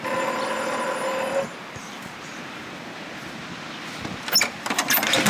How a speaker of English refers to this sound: Okay, walking up. I'll ring the buzzer.